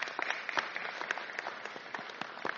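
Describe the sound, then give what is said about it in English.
A light, scattered round of polite applause from a modest audience answering a question by show of clapping, irregular claps overlapping at moderate volume for a couple of seconds. “By show of clapping, was it helpful to know the songs we would be singing this morning ahead of time?”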